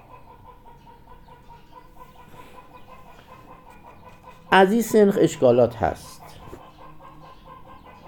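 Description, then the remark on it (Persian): Hens and a rooster break into a loud, brief burst of clucking and squawking, lasting about a second and a half, while a man talks quietly in the background. “ماشاءالله ببینی صدای مرغ و خروسان میادم، مرغ و خروسان به وجد اومدن، مرغ و خروسان به وجد آمدن از این بحث علمی.”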